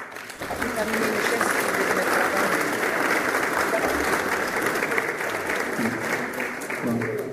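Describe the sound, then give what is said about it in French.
An audience claps steadily and loudly for several seconds for the young people who worked behind the bar and in the kitchens, a dense wash of many hands with faint voices and cheers mixed in beneath. “On peut les applaudir.”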